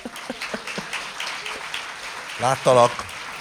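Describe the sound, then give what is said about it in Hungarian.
A lone person claps alone for a radio presenter a handful of times, sharp and uneven, the claps thinning out over a couple of seconds before a voice briefly speaks. “Láttalak, 11 másodpercig egyedül tapsoltál nekem.”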